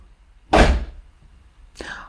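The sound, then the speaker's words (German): A door shuts with one solid, low thud that rings out briefly. A shorter, quieter sound follows about a second later. “Okay, machst die Tür nochmal zu?”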